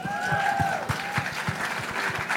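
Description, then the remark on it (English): An audience applauds loudly and steadily, with rhythmic clap bursts running under a dense wash of hand claps, and a couple of high whistles ringing out early on. “Clap it up for that, y'all.”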